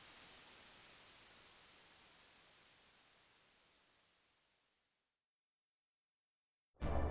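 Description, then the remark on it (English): A steady wash of white noise static hisses across the whole range, slowly fading away over about five seconds into silence, before a brief loud burst of noise cuts in at the end. “White noise to cleanse the background and focus the apparatus.”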